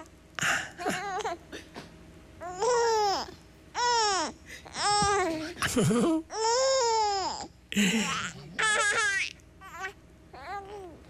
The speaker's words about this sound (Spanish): Pero muy pronto, ya pegaditos a la chichi de mami, con su papá, sus abuelitos, cuando reciben ya tanto amor y comienzan a sentirse seguros, las cosas cambian y al ratito ese bebé que había nacido llorando empieza a reír.